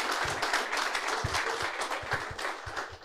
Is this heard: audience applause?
yes